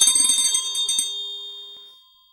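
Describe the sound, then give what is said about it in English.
A small bell rings in a rapid flurry of bright, metallic strikes for about a second, then its clear tone hangs and slowly fades away. Fairly loud, with no voices. “He changed the subject by ringing the bell and giving precise orders about being called in the morning.”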